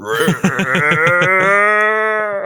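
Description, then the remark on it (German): A person mimics a bleating sheep or goat, with a rapid wavering series of nasal pulses trailing into one long sustained bleat, fairly loud. “Das klang jetzt eher wie so ein Schaf, glaube ich, aber egal.”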